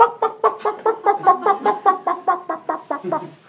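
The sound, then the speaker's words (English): A man in a church imitates a clucking chicken while walking around, in a quick, steady series of about fifteen nasal clucks, fairly loud, with no other sounds around it. “And the preacher said, "Quick, that man is clucking in the spirit.”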